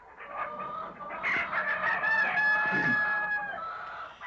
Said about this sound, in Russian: Скоро добрались и до птичьего двора.